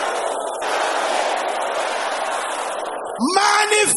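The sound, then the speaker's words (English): A large group of voices shouts a prayer together in unison in a loud, dense, continuous roar for several seconds, then a single voice rises clearly above the crowd near the end. “Brothers, can I hear you shouting it loud?”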